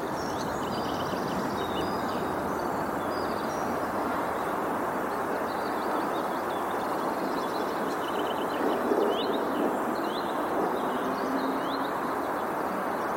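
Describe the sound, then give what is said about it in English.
Early morning residential ambience at 6:48 a.m. on Tuesday, April 20, 2021, by the Yellow Canary in a residential area between railroad tracks and streets in Essen: a steady, broad rumble of trains and traffic fills the air, while small birds chirp and twitter intermittently in the background. “By the Yellow Canary in a residential area, between railroad tracks and streets in Essen. Ambient sound.”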